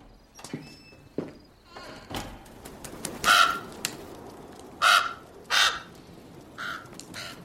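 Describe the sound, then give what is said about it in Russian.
A crow caws several times, harsh rasping calls in a loose irregular series, with fainter squawks earlier and a quiet outdoor background beneath. “Вороны всегда лгут.”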